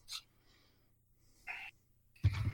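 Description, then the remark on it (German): Three quick nasal sniffles with short pauses between them; the first two are light and the last is a louder, wetter snuffle through the nose. “Ich muss mal kurz schniefen.”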